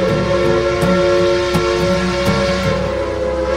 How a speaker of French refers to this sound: Nos concitoyens apprécient notamment le sifflement de la vapeur qui s'échappe, les pics d'énergie des engrenages.